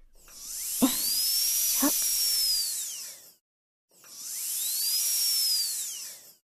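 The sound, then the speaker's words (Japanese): A high-pitched drill whirs in two separate bursts, each spinning up and winding back down, with two brief knocks during the first run; steady and fairly loud, with no voices. The drill is cutting a hole in a penis shaft for stirring the corpus cavernosum tissue. “攪拌するために、気筒下を切断して、海綿体内の組織をかき回すための穴を作りましょう。”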